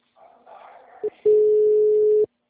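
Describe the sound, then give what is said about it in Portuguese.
Muffled voices give way to a brief beep, then a single steady, mid-pitched phone ringing tone that holds loudly for about a second before cutting off, the ringback heard while a call connects. “Vamos ver se vai chamar.”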